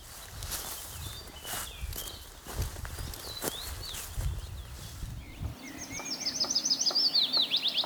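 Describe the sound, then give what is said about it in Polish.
Footsteps crunch through undergrowth for several seconds with scattered bird chirps as someone walks out of a copse to its edge, then a willow warbler sings a clear, sweet descending phrase, standing out alone once the walking stops. “Ale zanim o pierwiostku, wyjdźmy z zagajnika na skraj, bo tutaj będzie, mam nadzieję, piecuszek.”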